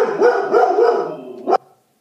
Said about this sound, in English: He barked so loud my desk vibrated. So loud he was barking.